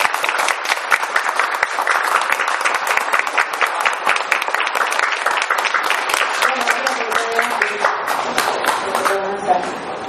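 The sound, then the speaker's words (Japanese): An audience claps steadily and continuously for the performers, including a band, at the end of the first citizens' concert. It is a dense, even patter of many hands that holds for about ten seconds, with faint voices surfacing near the end. “これをもちまして第1回市民コンサート正解いたしますが、本間様と…の皆様にもう一度拍手をお願いします。”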